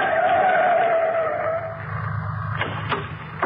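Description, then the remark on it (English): A car's tires screech loudly as it swings around a corner at the intersection of a street and an alley in a cheap section of a city just after nightfall, the squeal fading into a low engine rumble, followed by two sharp thuds close together. “He comes to the intersection of a street and alley just as a car turns the corner.”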